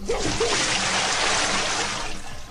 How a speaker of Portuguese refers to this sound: E um balde de água fria para ver se acorda, né?